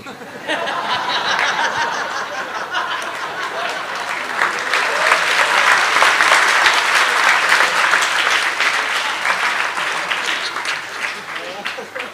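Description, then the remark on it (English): A crowd claps steadily and warmly, the applause swelling louder midway and carrying throughout, with scattered chuckles and a few voices mixed in beneath the clapping. “But when my dog-like propensities come out, everybody claps.”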